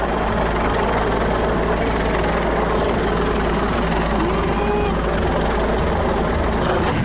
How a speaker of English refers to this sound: And a helicopter is over us now, and I can clearly see that it says police on the side of the helicopter.